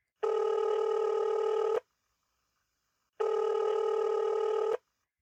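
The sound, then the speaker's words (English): A phone call placed from a mobile phone rings twice, each long, steady buzzing ring lasting over a second with a pause of silence between them, with no voices. “He quietly closed the door to the bedroom and pulled out his phone.”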